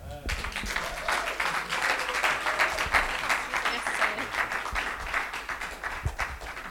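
A crowd applauds steadily, a dense wash of many hands clapping at once that holds an even loudness for several seconds without fading.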